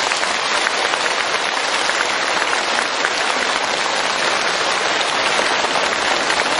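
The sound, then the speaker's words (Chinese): Sustained applause from a large audience thanking the many Buddhist Dharma masters who attended, a dense, steady wash of many hands clapping at once that stays at an even, loud level throughout with no voices standing out. “今天这么多法师前来助缘，台长用大家的掌声来替我感恩他们。”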